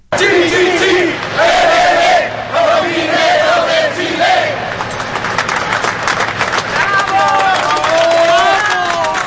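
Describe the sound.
A crowd of over 4,000 people watching the rescue of trapped miners chants in loud, rhythmic bursts of "chi-chi-chi, le-le-le" (meaning Chile) as each miner is raised, with voices rising and falling over continuous cheering, whistles and shouting.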